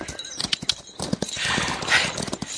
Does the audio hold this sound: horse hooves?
yes